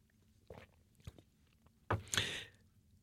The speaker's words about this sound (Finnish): Mä otan hörpyn vettä tässä vaiheessa.